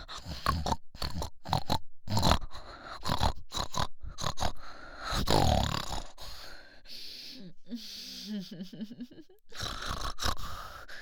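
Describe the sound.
A person, aroused, imitates a pig with a run of fairly loud nasal grunts and snorts in quick, irregular bursts, broken by brief pauses and a few breathy, wheezing sounds.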